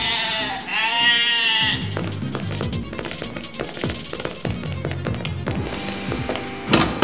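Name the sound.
sheep bleating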